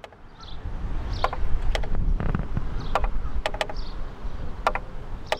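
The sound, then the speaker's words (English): A mechanical peddler's-style art cart, part of the Enviro Fountain exhibit at the Arts and Nature Festival and displaying plants, mosses and grasses in dirt, ticks with sharp, dry clicks at uneven intervals, some in quick pairs, over a steady low rumble with faint higher squeaks; no one speaks. “And the cart? It made a ticking sound.”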